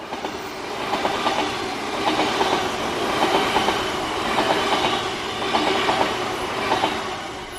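A train rolls steadily along the rails, with rhythmic clickety-clack beats from the wheels repeating about every second over a continuous broad rumble, loud throughout.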